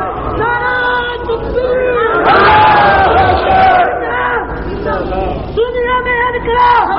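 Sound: crowd chanting religious slogans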